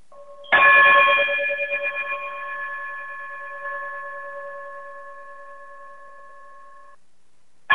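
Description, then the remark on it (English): A single bright, bell-like sign-off chime strikes loudly and rings out in a long, steady decay for several seconds, with another chime just beginning at the very end. No one speaks. “if you would be so inclined to chime us out.”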